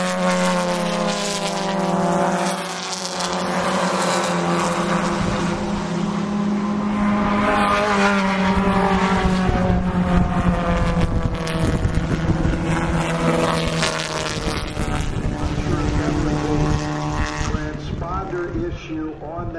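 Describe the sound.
Loud, continuous roar of race car engines screaming down the start-finish straightaway after coming off the Andretti straightaway through turns 8 and 9, their whining pitch rising and shifting as the cars pass, with a faint voice buried underneath.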